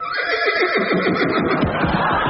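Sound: horse neighing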